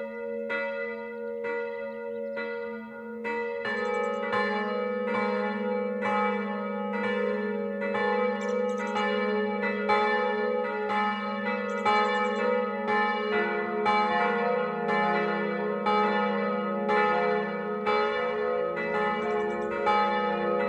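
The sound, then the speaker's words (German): Several church bells of the Gothic parish church St. Stephanus in Massing ring together in a steady, overlapping noon peal at 12 o'clock, loud and resonant with long ringing overtones, continuing without pause and with no voices. “Das Mittagsläuten kommt heute aus der Pfarrkirche St. Stephanus in Massing.”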